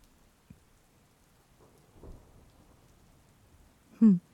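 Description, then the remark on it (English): Soft, steady rain patters quietly over a forest at night, heard from underneath an awning, with a faint low rumble midway and a short, loud tonal call or squeak breaking in near the end. “Rain falling down, the moon's out.”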